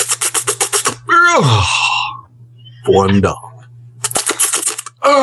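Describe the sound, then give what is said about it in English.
A man vocally imitates two snakes mating: quick bursts of clicky, rattling mouth noises, a long swooping groan that slides downward, then a rising whine, before the rapid clicking returns; a brief spoken word. “can I hear your impression of two snakes fucking? Go.”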